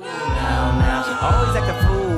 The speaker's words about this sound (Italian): Quindi al mio tre facciamo una prova di contestazione. Fortissimi, anche se siete tantissimi e verrà giù tutto l'auditorium di Radio Popolare, fatemi sentire urla di contestazione. 1, 2, 3.